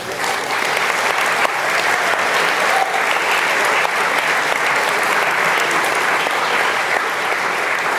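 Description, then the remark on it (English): Steady, dense audience applause for Alcatraz fills the whole stretch at an even, loud level, a continuous crackle of many hands clapping with no voices standing out. “Alcatraz, in case you're watching, this applause was yours.”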